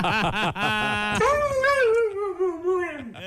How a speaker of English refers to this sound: And if you play that, like if you listen to that dog quote speaking, it is better than a lot of the announcers in this city.